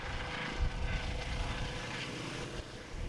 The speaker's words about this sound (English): And there goes the air ambulance. So the paramedics who treated the people who were involved in the crash are now heading back to RAF Cosford, just a journey of a few minutes actually.